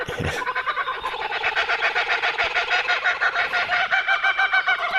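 A kookaburra's raucous laughing call rolls on without pause, a dense, rapid cackle of repeated hoots that stays loud from start to finish, with no voices.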